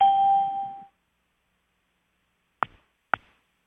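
A conference call chime sounds once, a steady electronic tone that fades out within a second, followed after a pause by two sharp clicks about half a second apart. No one speaks.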